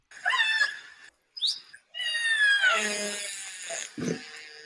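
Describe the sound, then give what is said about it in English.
Squeaky, door-like orca calls: several high, harmonic whistling cries that slide downward in pitch, with a brief sharp squeal between them and a low rumbling burst at the end. “Sounds like a squeaky door.”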